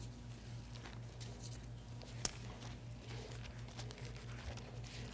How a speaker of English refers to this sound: Love to hear those pages turning. Haven't heard them in 8 weeks.